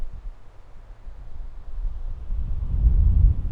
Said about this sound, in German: Okay, jetzt mit viel Gewalt, jetzt mit einer richtig kräftigen Böe, merkt man so leicht im Hintergrund.